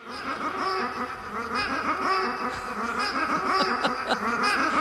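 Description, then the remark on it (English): Ducks quack over and over in a dense, busy stream of nasal calls, fairly loud and close, with no talking. “It just repeats those ducks.”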